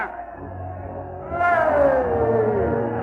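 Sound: lion roaring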